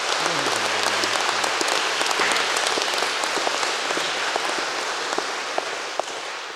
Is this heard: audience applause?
yes